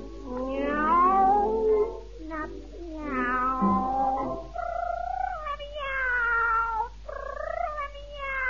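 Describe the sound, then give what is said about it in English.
A cat gives a string of long, drawn-out meows that waver up and down in pitch, loud, with short pauses between the yowling calls and no other sounds around them. “Oh, you want to get out to your boyfriend, do you, kitty?”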